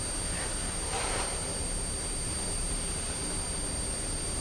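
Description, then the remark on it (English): A paper recycling lorry coming round the houses: its engine gives a steady low rumble mixed with broad hiss, swelling briefly near the start before settling into a continuous drone. No one speaks. “Oh, I think the paper lorry's coming round now.”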